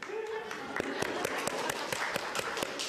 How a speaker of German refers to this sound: Kleinen Applaus vorweg.